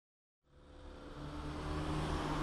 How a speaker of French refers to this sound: À l'arrêt de bus.